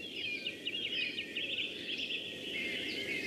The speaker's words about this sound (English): Song thrush. Song thrush there, Smolach Hill, Oscuelga. Yes, or Smolach.